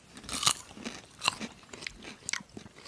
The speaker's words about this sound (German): Also wie gesagt, wenn wir hier schmatzen heute. Dann ist das so.